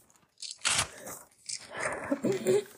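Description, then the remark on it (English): Paper rustles and crinkles as someone writes notes, in a few irregular bursts, a sharp crackle early on followed by a longer stretch of scratchy, shuffling rustling that grows somewhat louder toward the end. “And like I said, peeps, I'm actually writing this right now in notes, so that's why if you're hearing like a paper terror stuff, it's because that's what I'm doing.”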